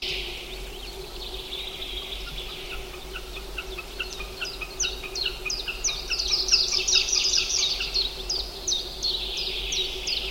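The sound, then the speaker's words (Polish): A rapid series of sharp, high, clipped whistles from a green sandpiper repeats in a steady rhythm, growing louder midway, over a faint constant hum and background hiss, with no talking. “Tak samo jak regularnie spotykane tutaj samotniki, czyli broźce samotne, to też odzywają się nagle i zanim się to uruchomi wszystko, to już jest po ptakach.”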